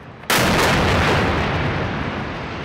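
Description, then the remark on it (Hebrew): A sudden, very loud explosion erupts after a brief quiet moment as an Israeli missile strike destroys a high-rise building in Gaza housing the Associated Press, Al Jazeera, other offices and homes, followed by a sustained, roaring rumble of debris that slowly fades. No one speaks. “This is the moment an Israeli missile strike destroyed a high-rise building housing the Associated Press, Al Jazeera, and other office spaces and homes in Gaza on Saturday.”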